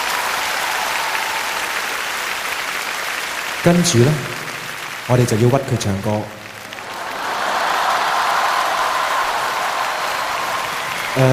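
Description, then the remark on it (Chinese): Steady audience applause for Miss Lai Suet-yan fills the opening seconds, breaks off while a man speaks briefly, then swells back up and continues as a dense, even clapping wash to the end. “我哋首先要俾多啲掌声黎瑞恩小姐。”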